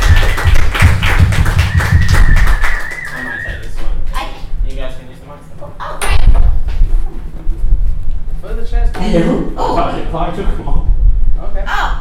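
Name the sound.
audience applause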